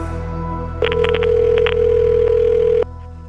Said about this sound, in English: Even as the phone rang